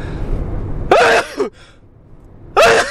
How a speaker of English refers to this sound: Sorry, I'm going to sneeze. Sorry, that was fantastic. I've had a new valve in my heart, and sneezing is now just completely... What was all that fuss about? I'm enjoying my sneeze so much.